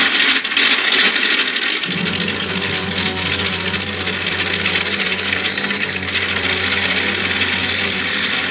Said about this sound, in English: I didn't waste much time warming up the engine. This would be the last takeoff for my ship, so it didn't make much difference.